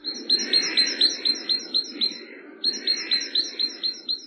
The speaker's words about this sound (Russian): Большак, большая синица, неутомимая певица, зателенькала, застучала в серебряные молоточки.